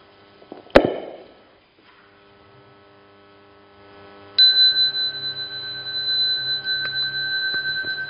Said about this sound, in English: We will do the morning chanting now. I will ring the bell, then the Ingbi can start.